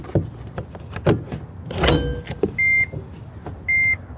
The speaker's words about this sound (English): He plugs it in, and his electric car starts to charge.